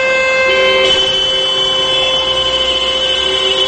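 Many car horns blare together in Perm during the "Signal of Sorrow" memorial action, with motorists sounding their horns for one minute at 12 noon local time. A loud, unbroken chorus of steady overlapping tones; the blend shifts slightly in pitch early on, then holds for several seconds with no voices.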